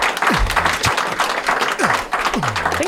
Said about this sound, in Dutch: Applaus voor meer dan 100 jaar.